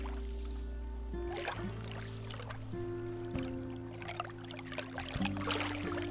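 Small waves lap and splash against the shore of Tamales Bay in uneven bursts every second or so, over a steady low mechanical hum like an idling boat motor.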